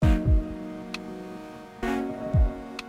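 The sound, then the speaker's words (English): An alarm clock ticks with a couple of crisp, sparse clicks over a sustained metallic ringing hum, broken by low thumps and two louder bursts. No one speaks. “When you make sound, your alarm clock makes sound, it's creating pressure vibrations in the air where it is.”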